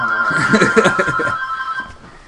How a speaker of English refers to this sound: All right. Back to the who the fuck is calling Joe. You, motherfuckers? Put your home phone on vibrate.